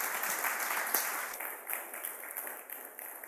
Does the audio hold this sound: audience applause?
yes